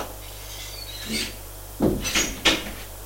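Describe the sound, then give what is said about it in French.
A woman opens a double glass door to a living room: a soft rattle, then a few quick clunks and a brief glassy jangle over a low steady hum, with no one speaking. “Elle ouvre double porte en glace, éclaire et fait entrer.”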